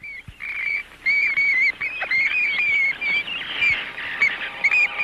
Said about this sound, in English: The shrieking of the vampire bat evokes the horror of Dracula.